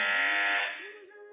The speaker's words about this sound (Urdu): مدنی کی بیل پہلے بجی